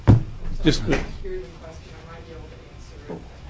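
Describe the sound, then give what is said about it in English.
A door bumps and clicks shut near the start, with a few quick knocks in under a second, followed by quiet room tone and faint background murmur. “Door.”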